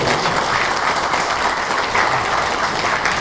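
Sustained applause from an audience welcoming a speaker, a dense, steady wash of many hands clapping at an even loudness for a few seconds with no voices standing out.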